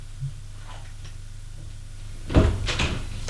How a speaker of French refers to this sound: Elle a tout juste le temps de faire que la porte s'ouvre.